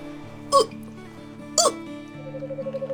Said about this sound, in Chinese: 小熊又打了一个嗝。小猫说：“ 你打嗝了。” 熊妈妈说：“喝点水吧，小熊。”于是啊，小熊喝了一些水，可还是没能止住打嗝。